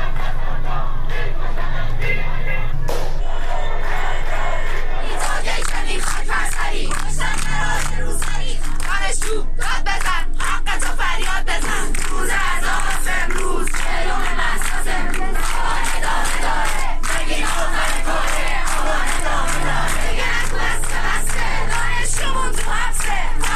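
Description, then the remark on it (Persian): A large protest crowd in Iran, where Saqqez and dozens of other cities held protests on Wednesday 4 Aban, chants and shouts slogans together against the Islamic Republic and its leader, loud and sustained for the whole stretch, with rhythmic surges of massed voices and some cheering. “سقز و ده‌ها شهر دیگر ایران روز چهارشنبه 4 آبان صحنه تظاهرات اعتراضی و شعارهای علیه جمهوری اسلامی و رهبر آن بود.”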